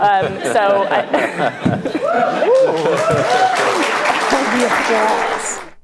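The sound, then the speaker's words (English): A crowd of Seattle progressives at an event applauds steadily for several seconds after Katie Wilson's remarks about millionaires leaving the state, a dense wash of clapping mixed with cheers, whoops and excited chatter, staying loud until it cuts off abruptly. “The applause from the group of Seattle woke progressives who want to go to something like this.”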